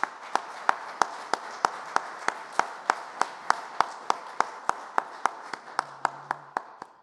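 An audience applauds steadily, a dense wash of clapping with one sharp, evenly spaced clap standing out about three times a second, holding an even level for several seconds before easing off.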